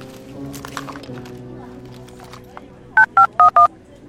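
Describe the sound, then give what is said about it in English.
Four quick, crisp touch-tone beeps as a phone number is keyed in to call headquarters, following a few seconds of faint murmuring voices and low background hum. “Yes, let me call. Fine. You can use my phone.”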